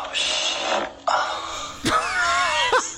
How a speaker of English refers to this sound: Shall I play another fart sound? Oh, this is... That sounded like yours.